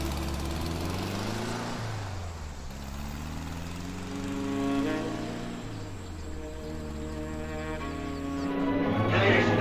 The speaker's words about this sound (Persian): فرهاد درو میبنده. سوار ماشین میشه. نادر راه میفته.